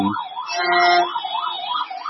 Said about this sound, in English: Is that what you're listening to? No, ambulance. Oh, ambulance, not a police.